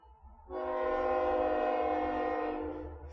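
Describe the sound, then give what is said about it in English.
A train horn blasts in one long, steady, loud note over the low rumble of a passing train, lasting a few seconds before cutting off. “Of course, the train has come by.”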